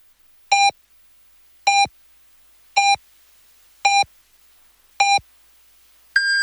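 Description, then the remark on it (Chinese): Radio hourly time signal on Donggang Radio's FM news and general broadcast, presented by Haiyuwang sea cucumber: five short, evenly spaced beeps about a second apart, followed by a longer, higher-pitched final tone. Clear and loud, with no talking. “海鱼王海参提醒您准确对时”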